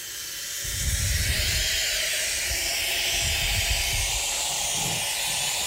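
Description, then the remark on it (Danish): Steady hissing rush of boiling water pouring from a boiling-water tap into a Bodum glass French press filled with coffee, a continuous, fairly loud spray with low gurgling underneath as the vessel fills. “Så tænder jeg simpelthen bare på den her hane.”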